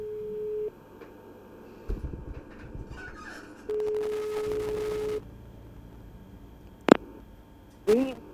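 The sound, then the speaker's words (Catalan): A telephone ringback tone as the radio station Ràdio Mora d'Ebre calls a contest winner: a steady mid-pitched beep sounds briefly, falls silent for a few seconds, then rings again for about a second and a half, followed by faint line noise and clicks. “Tenim el telèfon, voleu que la truquem? Anem a provar de tocar-la, si us sembla.”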